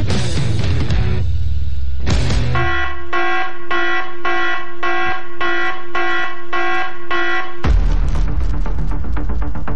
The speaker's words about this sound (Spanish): Atención. Atentis, atentis. Llegó la alarma. Llegó la alarma.